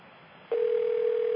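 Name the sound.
telephone dial tone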